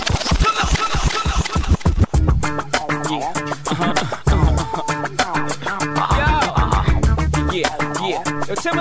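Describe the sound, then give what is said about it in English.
A DJ rewind done on request: quick, loud back-and-forth record scratches for about two seconds, then the track drops back in with pounding bass and busy music. “You requested it, so we rewind.”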